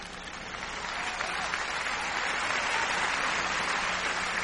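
A large audience breaks into steady applause, swelling over the first second and then holding at a dense, even roar of clapping with no voices over it.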